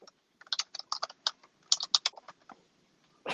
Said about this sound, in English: Fucking keyboard.